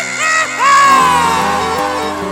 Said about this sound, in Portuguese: Oh, coração! Cadê os gritos apaixonados de Fortaleza aí?